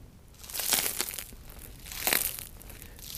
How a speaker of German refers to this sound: Wenn ich jetzt einfach auf das Brot drücke und das Brot ist schon mehrere Stunden alt, dann würde das jetzt noch knuspern. Ich weiß nicht, ob man das nachher hört, aber...